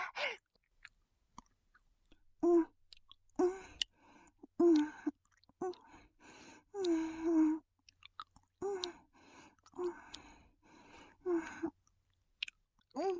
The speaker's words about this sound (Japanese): 十分に咀嚼して味わったし、そろそろ飲み込もうかしら。